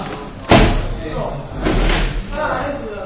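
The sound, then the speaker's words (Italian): Chairs being stacked: one sharp, loud clack of furniture hitting together, followed by duller knocks and scraping shuffles, with people talking in the background. “Massimizzare lo spazio. Combattare le sedie.”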